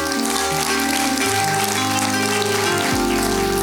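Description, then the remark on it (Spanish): A church audience at Casa Vida claps after a prayer, applause to the Lord in a morning service, in a steady, dense patter that fills the whole few seconds, with sustained low keyboard chords playing underneath and shifting near the end. “Un aplauso al Señor en esta mañana.”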